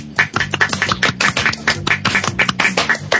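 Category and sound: crowd, clapping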